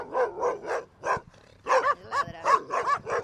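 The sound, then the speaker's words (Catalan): Several dogs bark loudly and insistently behind a fence, a rapid run of about ten sharp barks with a short lull in the middle before the barking picks up again. “aquí tenim l'exemple, no? Per exemple, Nachetos està tranquil·la i aquests cans lladren”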